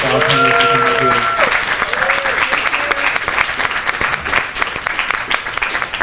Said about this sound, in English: So thank you so much. Look, y'all please give a round of applause.